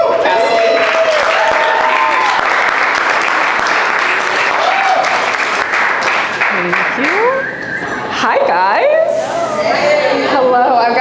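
Loud, sustained applause from an audience at the Oh Shoot Pop Up event, a dense wash of clapping with whoops and cheers rising over it, dipping briefly before swelling again with excited shouts.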